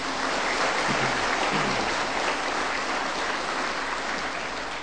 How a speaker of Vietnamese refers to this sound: Thầy xin tán thán một tràng pháo tay thật lớn.